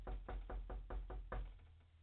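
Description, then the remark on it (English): Someone raps firmly on a door, about seven quick, evenly spaced knocks in a steady rhythm, clear with no voices. “Christ stands at the door and knocks.”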